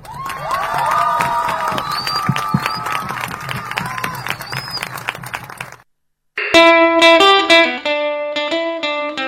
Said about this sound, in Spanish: Bueno, ahí escuchábamos el aplauso final después de el cierre del documento, ¿no? Donde la chica que leía decía, bueno, no se cuiden de nosotros, cuídennos.